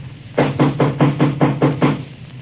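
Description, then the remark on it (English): A rapid series of about seven loud, evenly spaced knocks on a door, heard alone, with no voices. “closed the door behind her and started hunting for the light switch than she heard a loud knocking.”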